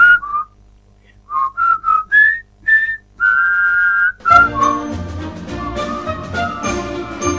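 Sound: soft human whistling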